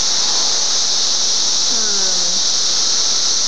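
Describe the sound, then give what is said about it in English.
Cicadas outside, heard through an open window, whir in a steady, high-pitched drone that holds unbroken for the whole stretch, with a faint low tone briefly gliding underneath partway through. No one speaks. “I think that overtone whirring is possibly cicadas.”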